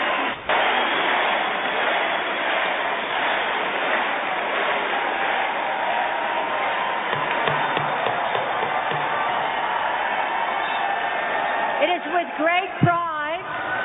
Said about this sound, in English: Hold on, Nancy Pelosi speaking. Let me just bring it pot up for a second. Of course, everyone's shouting, yes, we can. Right.